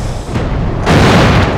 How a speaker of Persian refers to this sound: پناه بگیرید، توپ برای آلمانیه.